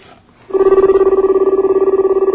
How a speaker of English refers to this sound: Well, it's ringing there, at least.